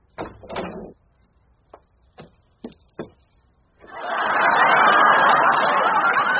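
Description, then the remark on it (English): A door opens with a short rattling burst, followed by a few sharp clicks and thuds, then a loud wash of crowd chatter and laughter swells up and continues. “That's exactly what I thought would be on the other side of that door.”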